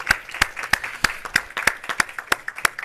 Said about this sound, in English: Let's just give the Lord another hand clap because we're so grateful, so thankful.